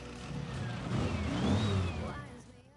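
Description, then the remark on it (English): A vintage candy apple red sports car's engine rumbles and revs as it drives out of a garage, swelling to a throaty peak with a rising whine before easing off as it moves out. “Stefan drives his vintage candy apple red sports car out of the garage and stops beside Elena and Caroline.”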